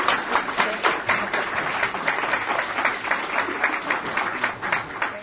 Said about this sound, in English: So don't go away, because we will continue this discussion in just a moment with our panel, but please join me in a big round of applause.